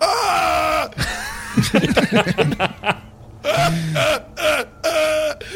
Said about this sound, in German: Wenn ich weine, bin ich doch nicht friedlich. Der weint sehr aggressiv und männlich.